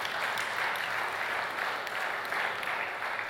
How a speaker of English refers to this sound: To God be the glory. Let's give a clap offering to God.